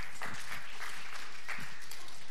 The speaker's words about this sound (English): I reckon it was worth a clap. It was pretty good.